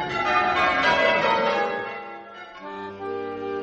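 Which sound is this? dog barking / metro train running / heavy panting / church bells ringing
church bells ringing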